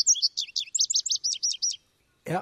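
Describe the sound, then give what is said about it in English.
A bright, bubbly bird song of about a dozen quick chirping notes that bounce up and down in pitch, clear, followed after a short pause by a brief burst of a voice. “Kind of cheerful, bubbly song.”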